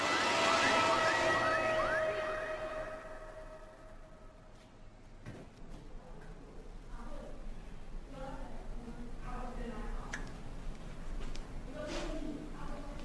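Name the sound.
ambulance siren rushing past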